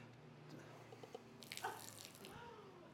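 Water pours and splashes steadily, overflowing into a puddle with a broad hiss and a few brighter splatters midway, moderately loud, with no one speaking.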